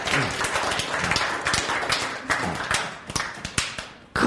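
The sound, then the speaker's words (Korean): A crowd claps steadily for several seconds, many overlapping hand claps forming a dense, bright patter that thins briefly near the end before a final burst, with no talking over it. “박수!”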